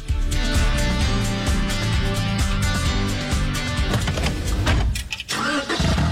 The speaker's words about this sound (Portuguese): E o som de um carro novo ligando. Esse momento a gente nunca esquece, né?